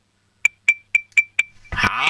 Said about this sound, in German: dann machst du mal mit dem Löffel so am Glas ein Ding-Ding-Ding-Ding-Geräusch. Das würde ich jetzt gerne hören.